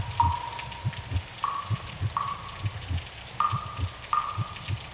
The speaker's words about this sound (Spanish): Por ejemplo, ayer por la noche estaba lloviendo por mi casa y las gotitas que caían sobre el tejado tenían ritmo.